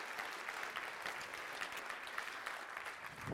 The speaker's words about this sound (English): So listen, I want to ask you, do you believe it's true? If you believe it's true, I want you to clap hard. Do you believe it's true? All right.